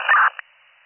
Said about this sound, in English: 76-17, there's static on, but it's still clear.